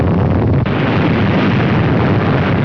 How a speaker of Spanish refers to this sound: el Pentágono invita también a un grupo selecto de la prensa a observar en la zona de pruebas de Nevada la explosión de Charlie. Es una bomba de una fuerza conjunta similar a las de Hiroshima y Nagasaki.